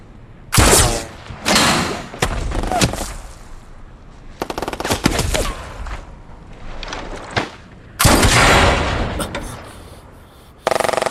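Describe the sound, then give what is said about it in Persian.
Loud volleys of rapid gunfire crackle in several bursts, separated by brief lulls, with sharp repeated shots ringing and a final heavy burst near the end. “شلیک کنید”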